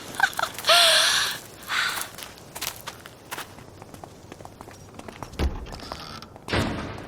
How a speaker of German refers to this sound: Hast du das gehört? Ich glaube, das war die Eingangstür. Wir sind jetzt wohl allein.